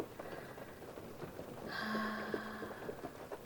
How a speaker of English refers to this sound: You, me, the rain, cuddling. It's just perfection. And relaxing. Just that constant sound of the rain.